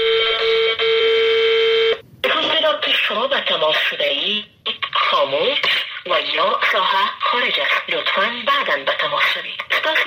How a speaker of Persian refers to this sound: این روزها تلفن‌های تماس با وزرا، مسئولان و مشاوران و معاونان دولت اشرف غنی در افغانستان یا خاموش است یا بوق ممتد می‌خورد.